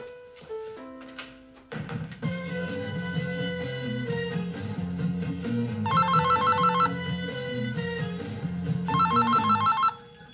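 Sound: telephone ringing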